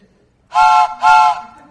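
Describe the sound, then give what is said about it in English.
A voice imitates a train whistle with two loud, sustained hoots, a rising whoo then a hoo, with a short gap between them and no talking. “We always did the whoo-hoo.”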